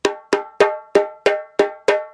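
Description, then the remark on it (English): A cow skin djembe struck seven times in a steady, even rhythm, each hit a bright, ringing tone that decays quickly before the next, with no voices. “That's cow skin djembe.”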